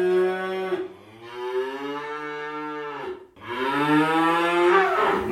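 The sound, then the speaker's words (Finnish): A cow moos over a radio: a short opening call, then two long, loud, low-pitched moos with a rich, buzzy tone, each sustained for a couple of seconds. No one speaks. “Muu kuului radiosta.”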